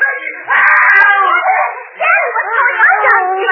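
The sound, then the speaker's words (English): A dog barks and howls loudly while attacking a man, a continuous agitated outburst of wavering, sliding cries with a brief break midway before it resumes just as intensely. “Dog is attacking poor Louis.”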